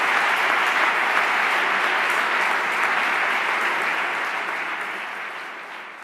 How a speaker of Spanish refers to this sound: El eco de los aplausos aún resuenan en nuestros oídos cuando nuestra maestra Piedad Bonet gana el premio Reina Sofía de Poesía.